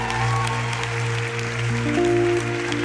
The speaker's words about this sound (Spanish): un aplauso por favor.